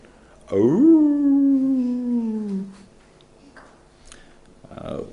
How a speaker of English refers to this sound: It's a howl.